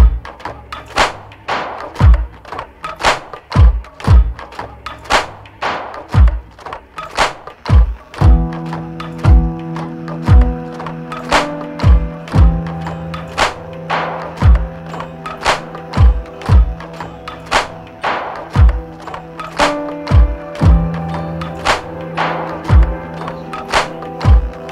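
A music track plays: a steady beat of heavy, thudding percussive hits, soon joined by sustained low droning tones and tonal layers underneath, with no clear singing yet.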